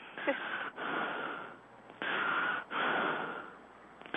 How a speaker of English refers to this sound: Hello? Who's breathing so hard?